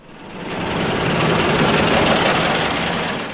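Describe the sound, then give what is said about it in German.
A bus engine rumbles steadily, swelling slightly in loudness and then easing off as it pulls away: the first bus driving across the new station square in Aarau, at noon, with no voices. “Punkt 12 heute Mittag ist er los. Der erste Bus, der über den neuen Bahnhofplatz in Aarau fährt.”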